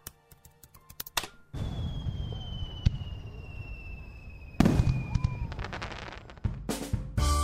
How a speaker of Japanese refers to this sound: オンラインで夏を楽しもう。花火もう一度行くよ。